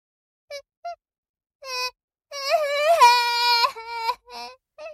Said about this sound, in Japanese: 男はこのくらいでビービー泣いてちゃ大きくなれないよ。